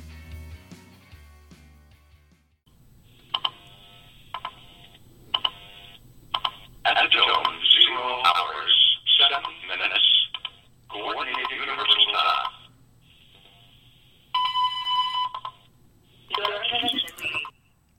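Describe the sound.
An atomic clock time signal played over a phone line: tinny, band-limited bursts of an announcing voice, faint regular ticks, and a steady beep tone partway through.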